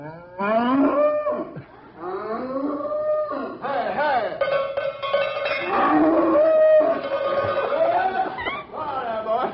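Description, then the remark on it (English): A cow moos loudly, letting out several long, drawn-out bellows in succession with only brief pauses, the lowing rising and falling in pitch throughout. “All right, come on, you cow. I don't think you'll leave her camp. Come on with the cow, anyhow.”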